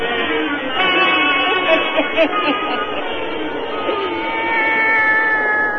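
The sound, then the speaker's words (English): Satan, the black cat of old Nancy, Witch of Salem, meows in a long, drawn-out, wavering yowl that carries on for several seconds, fairly loud, with no talking over it. “Now let us join old Nancy, Witch of Salem, and Satan, her wise black cat.”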